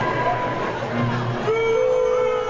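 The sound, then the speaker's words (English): A large crowd at Charlie Sheen's winning tour show booing, a loud, continuous wash of low, drawn-out jeers and noise with no single voice standing out, holding steady across the whole stretch. “There's the booing already.”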